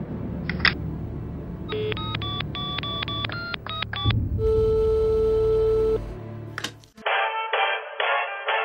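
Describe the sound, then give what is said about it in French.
A quick run of telephone keypad beeps dials a number, then a steady ringing tone sounds, followed by a few short pulsed tones on the line. “Appelle-le et tu verras.”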